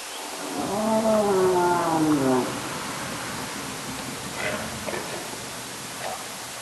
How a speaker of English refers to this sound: Eventually, with the help of lots of people in Alaska, they got hydrophones into the water. Michelle is now set to record an entire summer of whale sounds in strangely quiet seas.